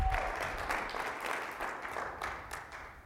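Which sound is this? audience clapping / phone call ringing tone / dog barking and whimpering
audience clapping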